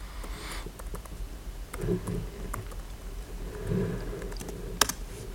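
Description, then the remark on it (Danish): Soft, irregular keystrokes tap on a computer keyboard as the tenant name is typed to connect a SharePoint-hosted app solution, a quick run of light clicks with brief pauses and one sharper click near the end, over a low background hum. “Nu skal jeg lige flytte den, så jeg kan se, at jeg skriver rigtigt.”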